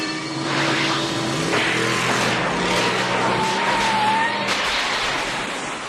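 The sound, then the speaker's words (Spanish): Doc's time-machine sports car from the film Back to the Future: the engine roars and climbs in pitch as it accelerates, with a tire skid squealing through a loud, continuous rush of road noise. No one speaks. “Y lo más importante, ¿quién no ha soñado con tener un coche como el de Doc para ir viajando en el tiempo”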